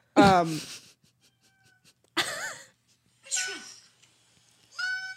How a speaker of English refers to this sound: You know those cats that honk? What? No, what? You know what I'm talking about? The cats that are like, huh? Do it again? You must show me this oriental short-haired cat. That's what it's called.